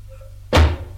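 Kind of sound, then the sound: household object, door opening and closing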